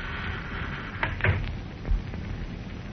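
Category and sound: household object, side door opening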